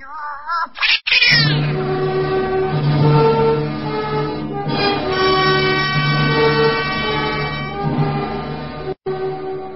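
animal, cat yowling

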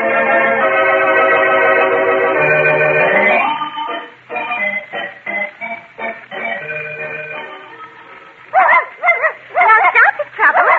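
animal, dog barking and whimpering

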